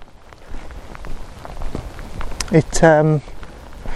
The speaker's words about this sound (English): It didn't say rain. I mean, it's not rain. It's drizzling. It's actually quite pleasant.